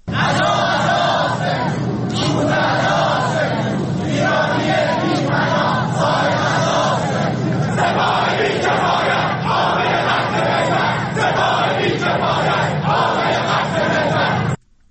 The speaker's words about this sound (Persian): بنابر گزارش ها دانشجویان معترض روز یکشنبه در دانشگاه بهشتی تهران در اعتراض به سرنگونی هواپیمای مسافربری اوکراینی علیه سپاه پاسداران و رهبر جمهوری اسلامی شعارهایی دادند.